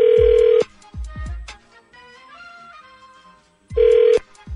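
A phone line rings out twice on an outgoing call, with loud steady buzzing ring tones at the start and near the end and quieter musical notes playing in between. No one speaks.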